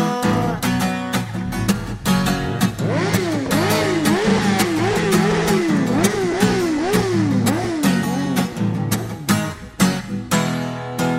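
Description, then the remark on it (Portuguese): An imported R1 sport motorcycle with 1,100 cc engine revs again and again at a party, its pitch surging up and dropping back in quick loud waves, layered over a pounding rhythmic beat. “Cheguei na minha R1, 1.100 cilindradas e acelerei. A galera toda levantou, só pra ouvir o ronco do motor.”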